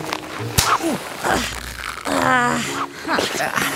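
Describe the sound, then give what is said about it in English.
A zipper rasps up in a few tugging bursts, fairly loud, mixed with strained, squeaky grunting vocal sounds, as someone is zipped up into a stretchy suit worn over their clothes. “Here, stay still and I'll zip you up.”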